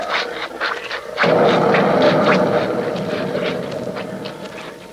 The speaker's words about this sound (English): Listen to the pigs. Wonder what they're so excited about. Probably the storm.